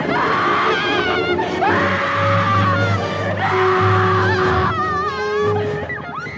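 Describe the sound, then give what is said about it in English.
A woman in a movie scene screams repeatedly in loud, sustained, wavering bursts over a low droning background, with short breaks between the cries and a rising, shrill final shriek. “The screaming chick.”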